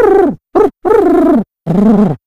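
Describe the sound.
A man imitates a pigeon, cooing in four fairly loud voiced calls of uneven length with short pauses between them, and no other sounds around.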